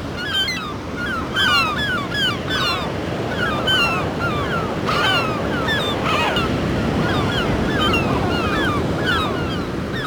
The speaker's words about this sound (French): Moment de stress pour les goélands.